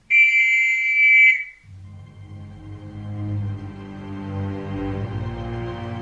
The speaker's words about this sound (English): Then he placed his whistle in his mouth and blew.